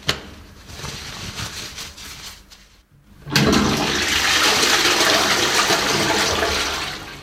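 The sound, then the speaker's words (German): A toilet flushes with a loud, steady rush of water, briefly dropping off before a second strong surge of gushing, hissing water that continues to the end, with no voices. “Auf dem Klo waren Sie danach vielleicht auch?”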